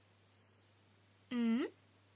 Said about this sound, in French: Le téléphone de Poppy vibre.